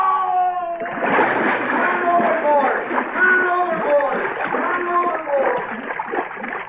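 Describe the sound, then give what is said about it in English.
A heavy splash as a man falls over a ship's rail into the water, followed by several seconds of loud churning and sloshing, with shouting voices mixed in over the turbulent water. “Help! I fell in!”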